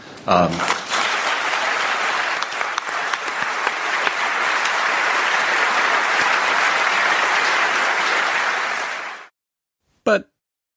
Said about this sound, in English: That's what the people like. You heard them applaud. He always gets his biggest rounds of applause when money is concerned.